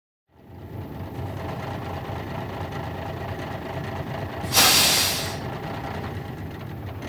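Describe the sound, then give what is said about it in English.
A bus idles at the bus station in Coober Pedy after the trip from Adelaide, with a steady low engine rumble, then a loud hiss of air brakes bursts out briefly before the engine drone continues. No one speaks. “He meets his uncle at the bus station.”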